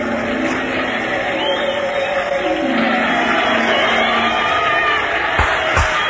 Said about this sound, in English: They love you. They cheer you. You bow to them. You smile. One by one, they come to you. You tell them what to do, and they do it. All cheer.